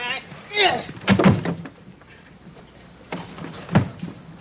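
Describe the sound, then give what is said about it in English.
A stuck door is shoved and rattled in two rough bursts of knocking and thudding, with a short strained vocal sound near the start. “Hey, the door's stuck.”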